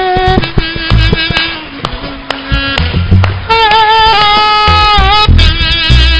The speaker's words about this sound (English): Can we put our hands together for them, please? Please, we can do better. Please. I want us to keep clapping, please.